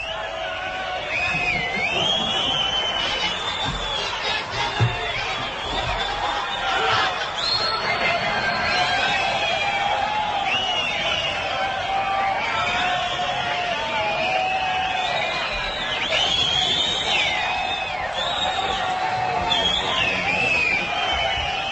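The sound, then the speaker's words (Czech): A large crowd roars steadily throughout as a police intervention unit makes contact with it, many overlapping voices shouting and calling out at once, with occasional louder yells rising above the continuous dense din, fairly loud. “zásahová skupina nadviazala kontakt s davom.”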